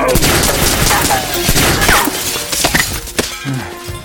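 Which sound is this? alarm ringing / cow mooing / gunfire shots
gunfire shots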